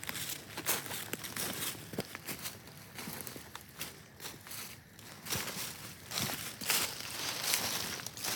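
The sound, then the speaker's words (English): Crinkling and rustling of a paper towel being handled outdoors among leaves while tracking a blood trail, with a few sharp tearing bursts and crumpling noises scattered throughout, fairly loud and continuous with no talking. “So let me grab the paper towel.”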